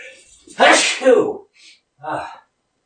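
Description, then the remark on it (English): A single loud sneeze bursts out with a sharp, breathy explosion, followed by a couple of brief, softer breathy sounds afterward. “Felt that sneeze coming on for a while.”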